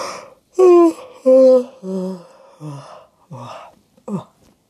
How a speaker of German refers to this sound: Dabei gähnt sie.